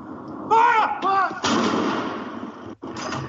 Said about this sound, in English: Batteries of cannons in London, Edinburgh, Cardiff, Belfast, and other cities fired 41 rounds.